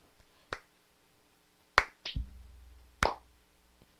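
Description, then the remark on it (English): A few scattered, sharp hand claps, spaced irregularly and sounding thin and sparse rather than like a full round of applause, with a soft low thump partway through and no talking. “Could you all clap a little louder?”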